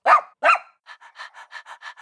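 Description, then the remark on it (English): A puppy gives two sharp, high barks, then pants rapidly in a steady run of short, breathy huffs, clear with no talking. “Answer, I am a puppy.”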